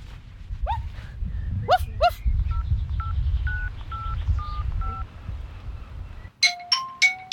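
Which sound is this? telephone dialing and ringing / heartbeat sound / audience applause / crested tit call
telephone dialing and ringing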